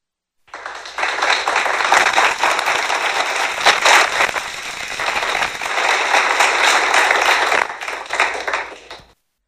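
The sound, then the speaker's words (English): A crowd applauds with dense, crackling clapping that swells loudly for about nine seconds, dipping briefly a few times before cutting off. No one speaks over it. “And we want to thank you there, too, because it's not often that Mike Pence hears an applause.”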